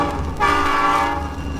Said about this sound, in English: And this one kind of sneaks up on you. It's one of those fading in records, because here comes the train, you know?